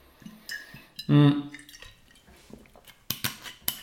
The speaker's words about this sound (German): Denn ich werde jetzt ganz kurz einen Schluck Wasser nehmen und dann, wie gesagt, gehen wir direkt einmal in die nächsten Lebensbereiche rein.